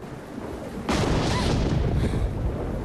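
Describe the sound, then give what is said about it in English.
A sudden crack of thunder at night, with lightning, breaks out of a low steady hiss and rolls on as a loud, broad rumble that slowly eases off over the next couple of seconds. “Later that night, Sherry's woken up by the thunder and lightning.”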